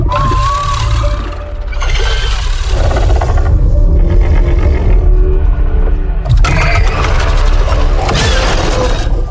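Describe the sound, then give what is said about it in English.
A loud, growling alien creature vocalization from the Alien Life sound library by Boom Library, with roaring, gurgling textures and harsh, crackling high-end bursts, shifting between snarls and screeches over a deep, rumbling low end, without any talking. “Alien Life by Boom Library gives you the tools to develop unique alien vocalizations and bioacoustics for all sentient beings in your universe.”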